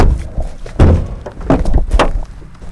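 A few solid knocks on the wooden door of Judge Robert Folks's house in Mississippi, three dull thuds spaced unevenly over a couple of seconds, against a faint background hum with no talking.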